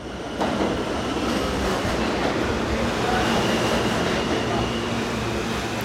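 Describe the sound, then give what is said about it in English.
A subway train rumbles loudly and steadily through a platform of the Essex Street subway station, next to an abandoned trolley terminal, with broad roaring noise, faint metallic squeals and clatter, and some indistinct voices. “Right now we're actually at a subway platform that's immediately adjacent to the Lowline site itself.”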